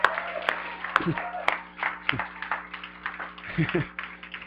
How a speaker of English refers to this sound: If you're just gonna clap politely, let's not do it, you know?